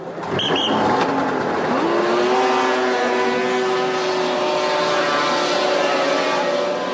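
A snowmobile engine roars at high revs as it races across water in summer, a sport called water skipping. Its steady droning whine holds loud and unbroken, with a rising pitch sweep early on and faint splashing hiss throughout.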